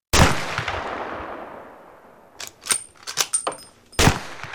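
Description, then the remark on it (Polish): A loud shotgun blast rings out and echoes away over two seconds, followed by a flurry of sharper cracks and one more heavy bang near the end. No one speaks. “To huknęło. To walnęło. Mało się nie wywróciłem.”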